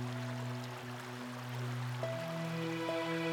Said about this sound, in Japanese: 時はこの小川と同じ、何があろうととどまらず流れ続けるもの。